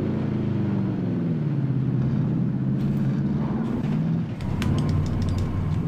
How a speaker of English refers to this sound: Another truck out here. We might be able to kill this one.